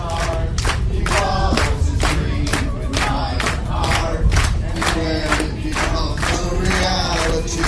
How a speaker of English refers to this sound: You just got to hear the crowd the first couple of lines,